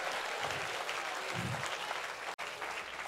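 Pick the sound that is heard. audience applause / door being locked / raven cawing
audience applause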